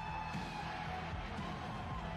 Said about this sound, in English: Man, that crowd's hot, buddy. Momentarily, and what an ovation for the 21-year veteran, Bret Hart, who debuted at the age of 19 in 1976 in Calgary, Alberta.